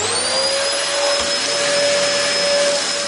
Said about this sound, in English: Okay. Vacuum cleaner.